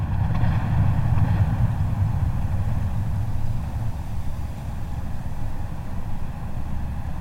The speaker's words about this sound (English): These are the hammering pulses made by an Arctic icebreaker 12 kilometers from my hydrophones.